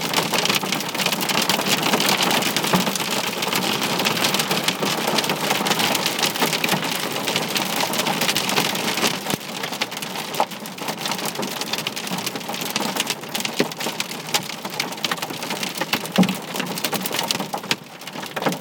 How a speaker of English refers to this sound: This is a hailstorm from inside the car that I'm currently sitting in.